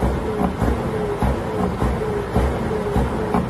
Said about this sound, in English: So that's basically, apparently, a truck is using his air brakes and revving his engine, according to this report.